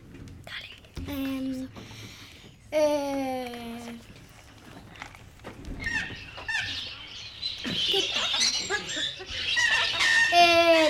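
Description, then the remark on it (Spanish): Loud bird squawks ring out in a few harsh, harmonic bursts, then give way to a dense, continuous chorus of shrill chattering calls that grows busier toward the end. “los pájaros están gritando en mi oído.”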